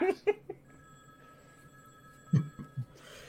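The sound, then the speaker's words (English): A steady, electronic telephone ring tone hums for about two seconds at moderate volume, framed by a few short thumps and brief vocal bursts. “Fine, I'll ring that phone.”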